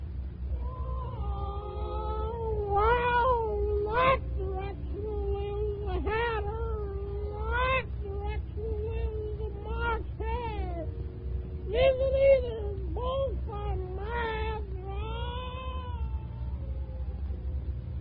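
A Cheshire cat meows again and again, its cries rising and falling into drawn-out, wailing caterwauls over a steady low hum, with no one speaking.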